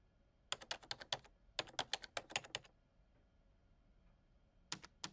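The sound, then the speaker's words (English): Rapid bursts of clattering keystrokes on a computer keyboard while someone types an email: two quick flurries, a pause of near silence, then a few more taps at the end. No voices. “Creator, please don't damage your keyboard.”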